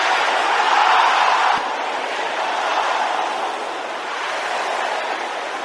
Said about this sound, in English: Can I hear the sisters shouting it? Can I hear the brothers shouting the same thing?